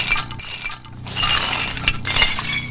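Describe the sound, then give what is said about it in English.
Smashed ceramic roofing tiles shatter in a street in New Orleans after Hurricane Katrina, a continuous clattering of breaking shards with sharp clinks scattered over a dense, busy crash; loud, no voices. “Smashed ceramic roofing tiles shattered in the street, just like the lives of more than a million people here.”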